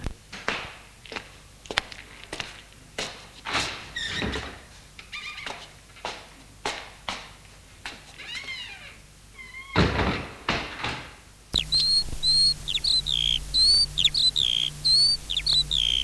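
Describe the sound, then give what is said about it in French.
A French window leading from a drawing room onto a terrace and a large, green park with many trees is worked open with a run of sharp clicks, rattles and knocks, then outdoor ambience takes over with steady birdsong chirping on a mild, warm day. No one speaks. “Il sort de la pièce par une porte-fenêtre qui donne sur la terrasse et le parc.”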